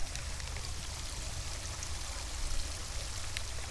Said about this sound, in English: Yay, all right, so maybe you can hear the water rushing over the dam.